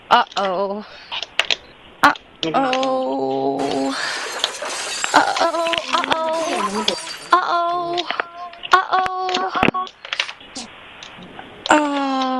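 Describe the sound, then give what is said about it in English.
A lamp is knocked over and shatters in a bright burst of breaking noise partway through, surrounded by clicking, tonal electronic tones and voice-like sounds. “Uh-oh, that's a lamp.”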